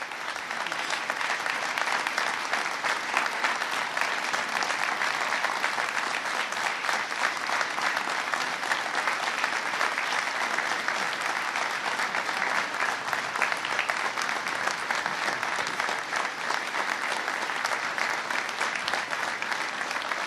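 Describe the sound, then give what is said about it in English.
Sustained audience applause fills the whole stretch, a dense, steady wash of many hands clapping at an even, loud level for about twenty seconds with no talk over it. The audience is applauding a couple for their strength and leadership. “And we applaud your strength and your leadership.”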